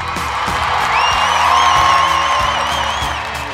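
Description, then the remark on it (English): A canned crowd-cheering sound effect played from an applause button: a loud, steady roar of voices with whoops and high whistles rising over it, lasting a few seconds with no speech. “Can I get you to hit that applause button, my friend?”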